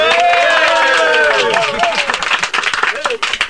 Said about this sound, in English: No, you get nothing other than a oh, round of applause.